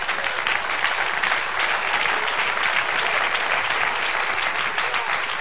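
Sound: audience applauding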